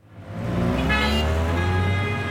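Busy traffic on the winding, car-choked streets of La Paz, Bolivia, with a low engine rumble and sustained car horns blaring over it, steady and fairly loud throughout, with no one talking.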